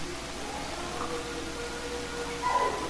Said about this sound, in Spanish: Pero ahí los perros empiezan a inquietar.